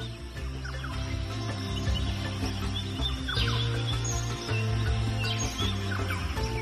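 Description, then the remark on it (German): Scattered bird calls chirp high above a steady low humming drone, a few quick notes spread across the moment, fairly soft, from birds flying from branch to branch high overhead in the jungle of Chiapas. “Kannst du die wohlklingenden Rufe der Vögel hören, die hoch oben über deinem Kopf von Ast zu Ast fliegen?”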